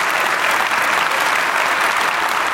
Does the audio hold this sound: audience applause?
yes